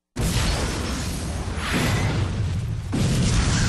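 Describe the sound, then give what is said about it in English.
A loud, sustained explosion erupts suddenly, a billowing orange fireball throwing black shards high into the air, and rumbles on with heavy low-end roar, crackling debris and a second surge of blast near the end, with no voices. “The explosion was nothing if not spectacular.”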